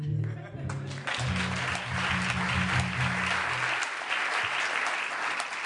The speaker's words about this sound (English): Ladies and gentlemen, once again, it's Michael Feldman. It is? Where? Oh, that usually draws applause.